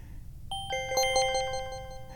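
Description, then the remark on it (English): Two bright, chime-like synth notes bounce into each other and off the walls, overlapping in quick, scattered repeats and ringing out like wind chimes at a moderate level over a faint low rumble, with no talking. “Very much like wind chimes.”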